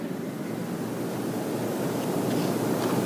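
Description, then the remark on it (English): Heavy rain pours steadily outside, a dense, constant hiss and patter with no breaks, fairly loud and unchanging throughout, with no voices present. “And they're going to play, and it'll drown out the pouring rain that's outside.”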